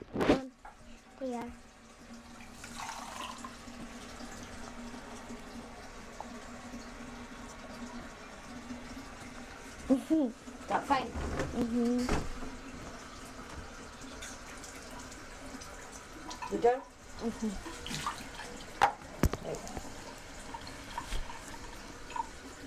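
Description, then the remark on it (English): Water runs steadily from a tap into a sink, with brief splashes and clinks breaking through the flow and faint voices in the background. “And can I have a drink of water next to that?”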